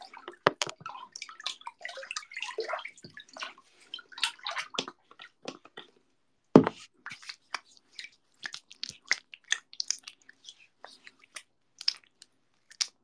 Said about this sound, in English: You want to hear the body milk on my skin? Hold on.